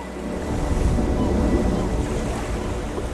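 Steady wash of Baltic Sea waves breaking on a shore in Schleswig-Holstein on a sunny summer day, a continuous low rumbling surge with some wind buffeting, moderately loud, with no voices.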